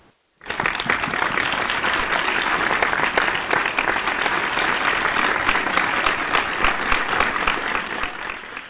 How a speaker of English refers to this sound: That is applause. That's applause.